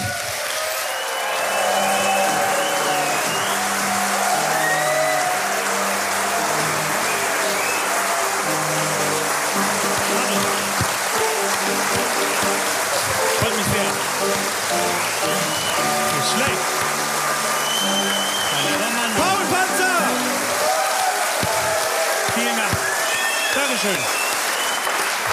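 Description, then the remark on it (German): A studio audience breaks into sustained, loud applause and cheering welcoming comedian Paul Patzer, with band music playing underneath. “Begrüßen Sie mit mir Paul Patzer!”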